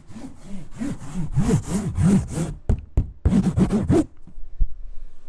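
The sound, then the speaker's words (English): A cardboard box being handled: a quick run of rhythmic, rasping scrapes and rubs, about a dozen strokes, then a pause and a couple of soft knocks. No one speaks. “And that's a cardboard box.”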